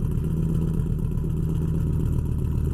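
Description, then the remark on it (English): A pickup truck engine idles loudly, heard at the tailpipe, its exhaust chugging with an uneven, stumbling pulse as the engine's misfire breaks the steady low rumble. “I think as we move back towards the tailpipe, you'll hear the miss a lot more prevalent than you do here at the front.”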